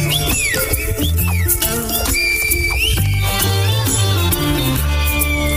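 Gliding, piercing whistles of El Silbo, the whistled language of the island of La Gomera, echo as they rise and fall in short phrases, heard over a dense, steady musical backdrop with low sustained tones.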